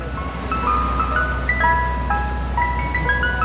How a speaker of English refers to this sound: I think that's a good humor, man. It sounds from Philadelphia, where it's been 99 degrees. Thank goodness for ice cream trucks.